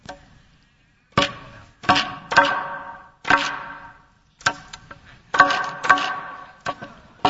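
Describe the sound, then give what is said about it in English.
Around ten sharp hammer blows strike a nail at an uneven pace, each hit leaving a brief metallic ring before fading, with short pauses between strikes and no talking. “Here's my nail, here's my hammer.”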